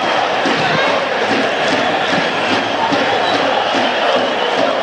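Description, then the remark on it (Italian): Loud, dense crowd noise fills the Tardini stadium during Parma versus Inter, 2-2 in the 84th minute, as Parma fans appeal for a possible foul by Acerbi; many voices shout and jeer together in a continuous agitated roar that never lets up. “forse c'è fallo di Acerbi, la spinta chiede Pellegrino e anche il pubblico del Parma, non secondo l'arbitro, qualche animo surriscaldato anche in tribuna.”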